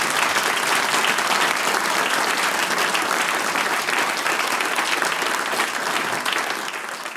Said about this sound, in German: Es ist immer ein Genuss, jetzt schon euch zuzuhören und wir verabschieden euch mit dem nächsten Applaus und hoffen auf ein baldiges Wiederhören und Wiedersehen.